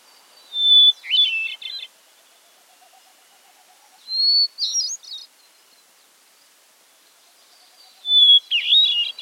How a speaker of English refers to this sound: But thrushy as it may look, a water thrush can't compare to this hermit thrush when it comes to a beautiful song.